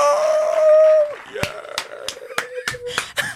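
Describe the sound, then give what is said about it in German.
A short crowd cheering sound effect: a sustained high whoop for about a second, then a handful of sharp, scattered claps or shouts over a thin background roar. “Das Publikum schreit und jubelt.”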